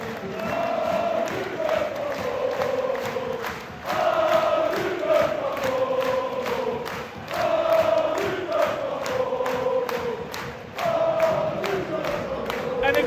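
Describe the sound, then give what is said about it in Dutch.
A large crowd of AZ football fans chants in unison, cheering their team forward during a cup final: a repeating melodic cry that rises and falls every few seconds, with shouting and claps woven through the steady roar of many voices. “We zijn nu voor het laatst even AZ naar voren aan het schreeuwen.”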